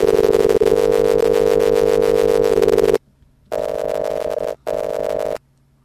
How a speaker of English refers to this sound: Okay, and I think we're going to give her a ring on the phone, on the Skype line.